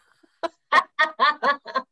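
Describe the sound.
A voice imitates a chicken with six short clucking bursts that come in a quick, uneven rhythm and grow steadily busier, with no other talk.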